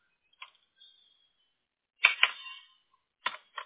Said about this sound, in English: I have 2 more digits to type, and then we got it. Oh, okay, sorry. I lied. 3 digits.